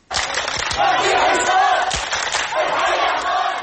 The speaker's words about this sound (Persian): تصاویر ویدیویی که در رسانه ها به نشر رسیده نشان می دهند که پس از اعلان این خبر مردم حلب به سرک ها برآمده ابراز خوشحالی می کردند.